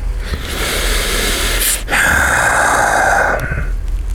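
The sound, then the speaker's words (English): A loud sharp gasp is followed by a long, strained breath with a raspy, hissing texture, with no talking. “You humans and your breathing.”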